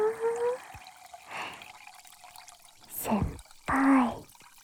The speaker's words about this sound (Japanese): 炭酸もグラスに注いでシュワシュワシュワ。